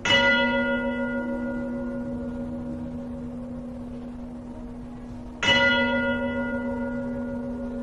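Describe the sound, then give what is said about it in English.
A large church bell tolls twice inside a cathedral, about five seconds apart, each strike blooming into a rich, sustained hum of overtones that lingers and slowly fades. No voices. “Others have applied the same technique and studied the cymatic patterns displayed when bells chimed within the structures.”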